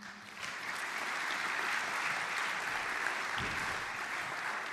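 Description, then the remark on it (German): Steady audience applause welcoming a guest at a Bible study and interview session fills the whole stretch, a dense wash of many hands clapping at an even, moderate loudness with no voices breaking through. “Ja, dürfen wir ruhig klatschen.”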